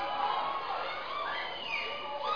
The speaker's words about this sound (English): Hallelujah. Hallelujah. We're going to shout one more time.